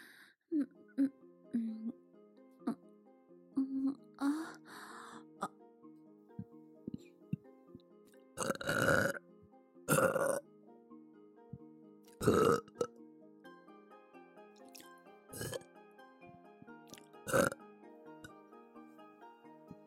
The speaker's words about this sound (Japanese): ゲップ恥ずかしい。